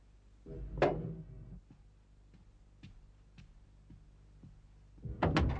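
A door is opened after the doorbell rings: a sharp clack of the latch, a run of faint, evenly spaced ticks, then a louder rattling clunk. No one speaks.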